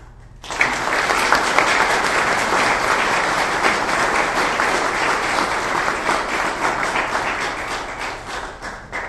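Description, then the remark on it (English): A burst of applause from an audience: dense, steady clapping starts abruptly and holds at a fairly loud level for several seconds, easing slightly toward the end, with no voices heard, following a speech urging support for House Bill 1831. “I guess if we had a speaker or a president of Pro Tem, they would hit the gavel and say, no clapping.”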